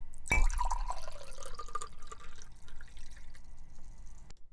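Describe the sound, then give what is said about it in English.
Wine is poured into a glass: a quick glassy clink, then a steady gurgling, splashing pour that runs for about four seconds before stopping abruptly, with no voices. “Can I offer you a glass of wine to relax?”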